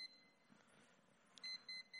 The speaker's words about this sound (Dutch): Ik hoor hier piepen iets.